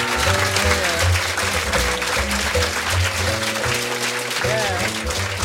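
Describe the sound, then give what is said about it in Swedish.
An audience at a live concert applauds bass player Sture Nordin in a dense, continuous patter, with voices and low tones sounding beneath the applause throughout. “En stor applåd för Sture.”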